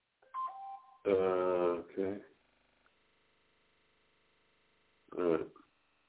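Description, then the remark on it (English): A few short electronic tones from a phone being dialed to call people step in pitch, then a couple of loud buzzy harmonic bursts follow, with a faint steady tone humming underneath before one more short burst. “All right, I'm going to call people from the phone here.”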